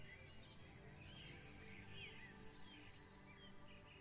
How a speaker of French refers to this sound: Il règne un silence envoûtant, ponctué çà et là de jolis chants d'oiseaux.